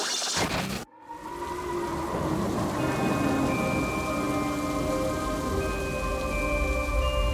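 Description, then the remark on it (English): Steady, heavy rain pours continuously, with low thunder rumbling beneath and faint sustained tones drifting over the storm. A brief cut near the start, then the downpour holds constant and loud throughout. “It was a dark and stormy night.”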